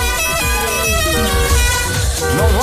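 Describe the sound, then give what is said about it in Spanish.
Several car horns honk over one another in a loud, sustained blare, layered tones overlapping continuously as if in heavy traffic, with engine rumble underneath. “Esos coches, checho.”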